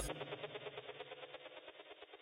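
A steady, throbbing rumble of cars in city traffic with a fast, regular pulse, recorded at the Cultiver en Ville urban agriculture event, at moderate loudness and holding fairly even from start to finish.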